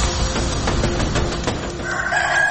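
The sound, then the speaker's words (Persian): A rooster crows at dawn by a house in the middle of a forest, its drawn-out, strained call rising over a steady wash of background noise toward the end. There is no talking. “هوس بوی شمال و نم بارون کردی که سحر خروس به خونه وسط جنگل هست”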